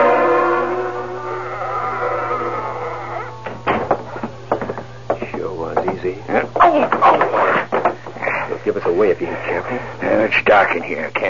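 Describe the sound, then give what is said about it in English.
A drawn-out tonal wail gives way to a run of scraping knocks and thuds, like a chair being bumped and jostled in the dark during a break-in at a newspaper office, loud and irregular over a steady low hum. “Must have been a chair bumped.”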